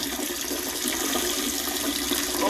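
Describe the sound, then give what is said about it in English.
A steady stream of urine splashes into the water of a toilet bowl, a continuous hissing trickle that holds at an even, moderately loud level for the whole moment with no talking over it. “Don't, bro, I just fucking cleaned this toilet, dog.”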